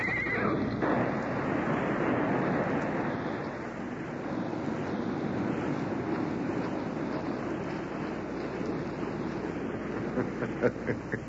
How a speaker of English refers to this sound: Neither could they see the rope that was stretched tightly right across their path. Before they knew it, the galloping horses tripped on the rope.